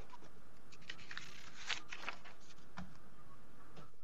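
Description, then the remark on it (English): Pieces of paper being moved by a lawyer during a court argument shuffle and rustle in a series of soft, crisp bursts, a few sharper crackles standing out over a low, quiet background hiss, with no voices. “I'm going to move some pieces of paper, but I won't talk.”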